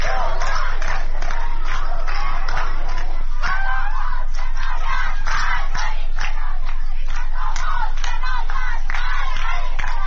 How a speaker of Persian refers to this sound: رادیو فردا، بخش فارسی رادیو اروپای آزاد ویدیوهای از اعتراضات محصلین در سنندج و پوهنتون علم و فرهنگ در تهران دریافت کرد. در این ویدیوها دیده می شود که معترضان علیه حکومت شعار می دهند.